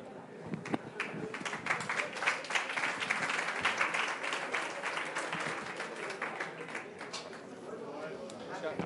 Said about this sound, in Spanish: Ha sido el único al que ha aplaudido. Has conseguido ser el único al que ha aplaudido. Los demás no han aplaudido.